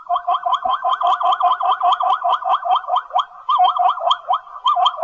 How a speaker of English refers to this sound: And this is a zebra. Don't you think it's amazing?